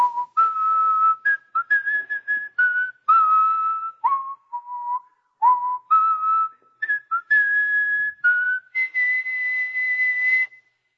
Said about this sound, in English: You walk down the hallway at your workplace and you're whistling.